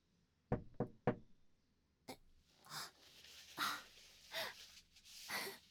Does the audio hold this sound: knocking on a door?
yes